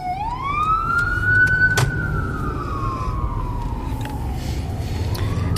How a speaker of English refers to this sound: Here comes an ambulance.